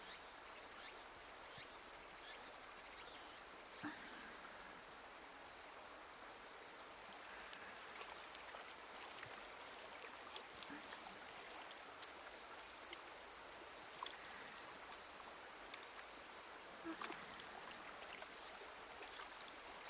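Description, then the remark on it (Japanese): A river flows steadily, its broad rushing and burbling wash filling the scene without pause, with faint insect chirps in the background and no one speaking. “うちわで仰ぎますので、しばらくは、息を整えて、川の涼しさを感じてください。”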